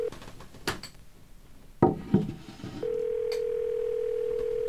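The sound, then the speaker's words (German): A few sharp clicks and handling knocks as a mobile phone is picked up to call someone's mother, then a steady, continuous telephone dial tone that hums clearly and evenly until the end. “Sie trinkt ein Glas Leitungswasser in einem Zug leer, greift dann zum Handy und ruft ihre Mutter an.”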